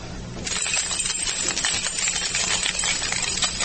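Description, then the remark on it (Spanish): A bunch of keys, thrown by a listener at a preacher's request during a sermon, jingles and rattles continuously for a few seconds, a bright metallic shaking with dense clinks and no voices. “¿Alguien tiene llaves? Nunca tengo mis llaves.”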